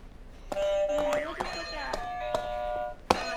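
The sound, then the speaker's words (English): An exhibit buzzer is pressed, giving a steady electronic tone broken by several sharp clicks, with voices murmuring underneath. “All right, can you hit another buzzer for us?”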